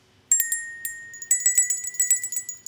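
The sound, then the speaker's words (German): A small table bell rings: one bright, clear strike that lingers, then a quick flurry of repeated rings, with no talking. “Was ist denn so die kleinste Tischglocke, nennt man die, glaube ich, ne? Tischglocken?”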